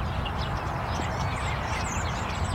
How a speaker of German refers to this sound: Während ich hier so über das Feld gehe in Kursdorf, kommt mir der Gedanke, dass die Vögel hier ziemlich laut sind. Also ich höre die Vögel trotz der Autobahn und es kommt mir ein bisschen so vor, als ob die Vögel gegen den Lärm ankämpfen würden.